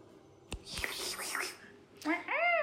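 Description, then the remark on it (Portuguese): A short, rising-and-falling meow from a female cat comes near the end, clear, after a stretch of breathy, scratchy hissing and a couple of sharp clicks. “Uma gata.”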